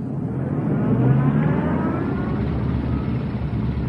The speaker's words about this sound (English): A concerto for motorcycle.